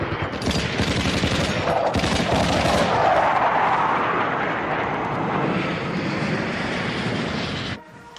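airplane flying overhead

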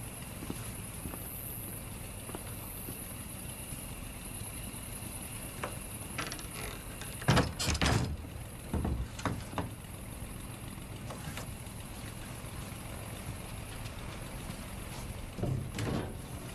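door being locked

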